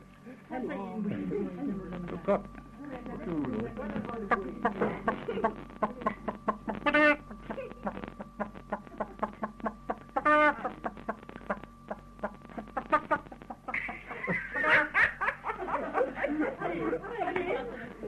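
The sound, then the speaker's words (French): A person imitates a clucking hen with a run of choppy, throaty clucks and squawks, fairly loud, among other voices chattering. “La poule qui tourne autour de vous, qui est en train de scier le morceau de bois.”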